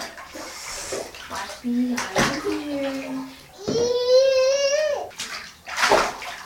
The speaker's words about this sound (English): Well, like every day, we take a bath together. He likes the water. He really likes to splash people.